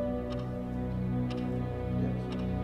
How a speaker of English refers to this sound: closes her eyes, lulled to sleep by the ticking clock.